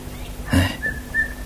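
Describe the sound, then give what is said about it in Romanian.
Nightingales sing at dusk: a short rustling burst, then thin, high whistled notes held steady in a few brief phrases, fairly soft over a quiet background with no talking. “Ascultă privietorile acum pe înserat.”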